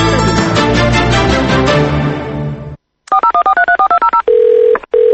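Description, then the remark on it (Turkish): After a burst of busy music and a brief silence, a quick run of about nine touch-tone key beeps is dialed, followed by a steady ringing tone on the line. “Salam, telefonu niye götürmürsen?”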